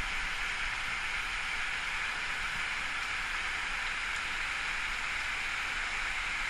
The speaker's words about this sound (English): And you hear a creek further off.